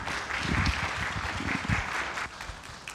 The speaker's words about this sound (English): Give him a nice round of applause, please.